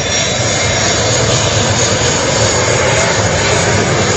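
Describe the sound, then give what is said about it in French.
A loud, steady jet engine roar fills the whole clip, a broad continuous rumble and hiss as a military attack fighter jet of the armed forces of the Democratic Republic of the Congo flies over Goma, Sake and Nyiragongo, with no voices. “Cet appareil d'attaque militaire a survolé de nouveau les airs de Goma, Sake et Nyiragongo.”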